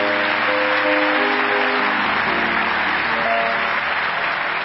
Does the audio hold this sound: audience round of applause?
yes